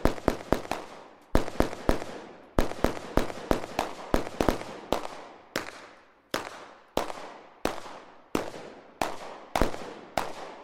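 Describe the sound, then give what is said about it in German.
A long, irregular volley of sharp gunshots fired in a stage play, some in quick clusters and others spaced apart, each crack loud with a short echoing tail. No voices are heard. “Das Problem war also, dass die Schüsse, die wir hier gehört haben, die Tiere verschreckt hätten, ja?”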